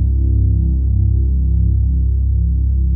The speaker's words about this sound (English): The loud hum of the machine as it moves him out of the scanner.